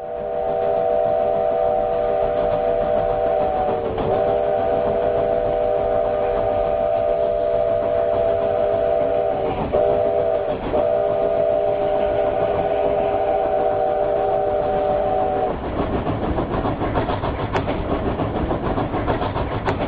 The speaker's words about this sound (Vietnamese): Ở thành phố miền Nam quận Cam này, mỗi đêm khó ngủ, tôi thường thức giấc vì tiếng còi tàu vẳng đến trong đêm vắng, còn nghe rõ tiếng bánh xe xiết trên đường sắt.